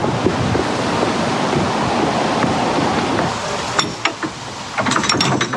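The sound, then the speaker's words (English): A steady rush of churning water fills the first few seconds, then a canal lock paddle gear ratchet clicks in quick, sharp bursts as the noise eases. “The ground paddles out of action on this side, so you just stand and watch.”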